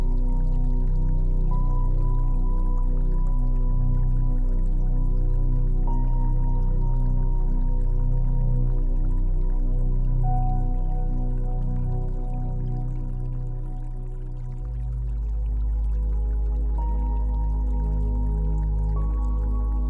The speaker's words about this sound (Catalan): Us assenteu al costat de la font i Maria Magdalena et proposa que escoltis el so de l'aigua.